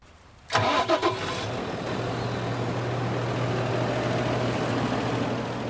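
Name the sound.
tractor engine running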